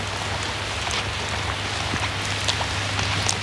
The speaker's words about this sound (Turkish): Evet. Oldukça şiddetli. Çok şiddetli bir yağmur yağıyor.